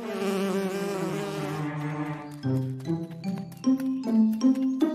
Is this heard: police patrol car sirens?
no